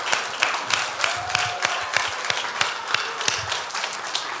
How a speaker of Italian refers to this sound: Facciamo un applauso ai nostri bimbi che ci hanno aiutato, grazie.